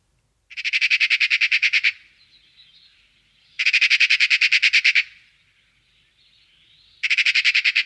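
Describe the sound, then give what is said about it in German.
Three loud bursts of a Eurasian magpie's harsh, rapid chattering rattle, each lasting about a second, separated by short pauses with faint softer calls between. No one speaks. “Und was man aber oft hört, ist das sogenannte Schackern, was wir euch jetzt mal vorspielen.”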